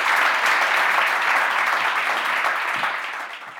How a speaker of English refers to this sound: Unfortunately, that's all we've got time for tonight. Can we have a big round of applause for all of these?